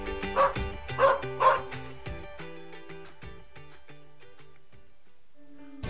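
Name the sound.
dog barking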